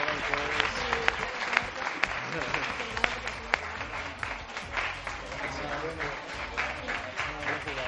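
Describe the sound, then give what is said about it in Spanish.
Steady audience applause at an award ceremony for the second-place finalists, a group of youngsters receiving diplomas from the consejero, fills the whole stretch, a dense wash of many hands clapping with sharp individual claps popping out, fairly loud and sustained without letting up. “Un aplauso para ellos, un aplauso, que lo han hecho muy bien.”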